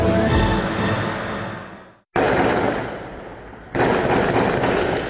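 Loud blasts of automatic gunfire and explosions during an attack on Makhachkala and Derbent, Dagestan: a dense opening roar that fades, then two sharp booms at intervals, each trailing off with rumbling decay. No voices.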